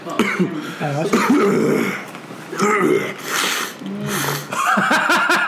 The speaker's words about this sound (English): Don't do that. Don't cough. Sorry.